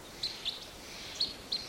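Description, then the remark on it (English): Wild birds calling from a tree: four short, high-pitched chirps in two pairs, evenly spaced over a soft steady background hiss, with no talking. “And 384 calling. Wild.”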